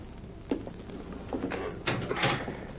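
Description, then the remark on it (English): A heavy jail cell door rattles and slides shut in a few clanking, scraping bursts as a prisoner is put inside, with no one speaking. “There's the door unlocked”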